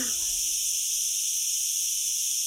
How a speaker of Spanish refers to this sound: Sí, las chicharras. Concierto para chicharras, que es así todo el rato, ¿no? Eso es que es una invitación, esta es como el ambiente que cierra el disco y es una invitación a reflexionar, ¿no?